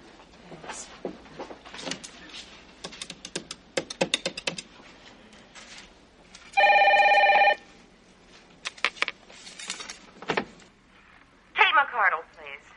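A call is placed from a dress shop telephone: a run of quick clicks like keys being pressed, then the phone rings once in a steady electronic burst lasting about a second, with a short warbling trill near the end.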